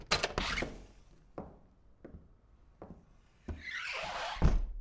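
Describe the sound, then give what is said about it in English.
An office door is handled and pulled shut with a few sharp clicks as someone exits the room, followed by slow, evenly spaced footsteps walking away, a rustling swell, and a final heavy thud. “Raven exits the room, shutting the office door behind her and beginning to walk away.”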